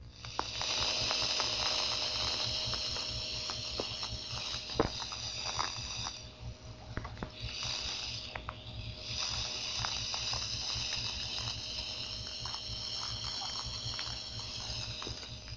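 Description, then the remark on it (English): Ship propeller noise on sonar, the ship about 15,000 yards out, heard with the 6,000-cycle filter cut in: a steady, loud hissing wash with a fast, rhythmic low churning beneath it, briefly easing for a moment midway before resuming. No voices. “That's the sort of sound a jet cruiser has too.”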